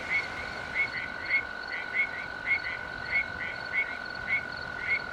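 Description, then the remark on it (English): Male arroyo toads in the Angeles National Forest advertise for mates at night with a soft, buzzing trill that repeats in short, evenly spaced bursts against a steady background drone of night sounds, with no one speaking. “With night settled in the Angeles National Forest, arroyo toads advertise for mates. The males let out a soft, buzzing trill.”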